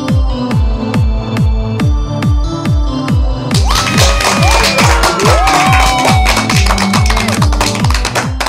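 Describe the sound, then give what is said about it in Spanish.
Crowd applause and cheering swell in partway through, joining a steady, thumping electronic beat that runs the whole way, with scattered whoops above the dense clapping. “Con esa energía positiva y esos aplausos, damos inicio a este episodio número 101, como los dálmatas, del programa Te Invito a un Café.”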